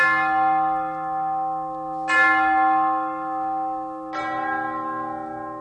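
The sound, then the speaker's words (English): A deep, solemn funeral bell tolls three times at slow, even intervals, each strike ringing out loudly with long, shimmering overtones that hang in the air until the next stroke. “Then there are spine-chilling funeral bells.”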